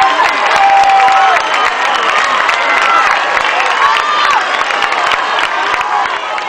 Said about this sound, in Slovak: Poprosím potlesk.